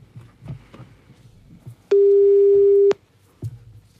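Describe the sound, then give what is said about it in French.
A single steady telephone ringing tone sounds once for about a second, loud and clear over faint background noise. It is the ringback of an outgoing call being placed once more. “On appelle une nouvelle fois.”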